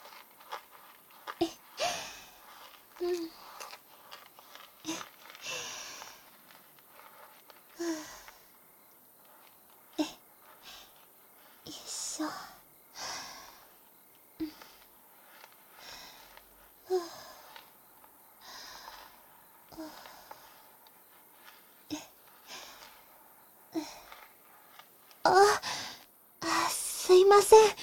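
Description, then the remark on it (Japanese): Powdered shaving soap being whisked into fine foam for shaving: soft, irregular swishing and squelching strokes, some in quick clusters, with brief pauses between, growing louder and busier toward the end. “こうやって粉状の石鹸をこうやってかき混ぜて作った泡はきめ細かくて、お顔に塗ってひげ剃りするととっても気持ちいいんですよ。”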